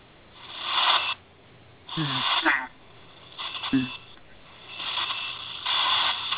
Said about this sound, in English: Yeah, I hear a bunch of static. I don't know. What's that? I hear static. Yeah, I hear that major static there.